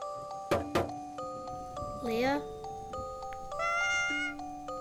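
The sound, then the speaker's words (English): A single meow from a cat named Leah rises and falls midway through, clear, over a soft sustained musical background with a couple of sharp knocks near the start. “She called out to her cat.”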